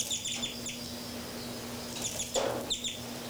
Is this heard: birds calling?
yes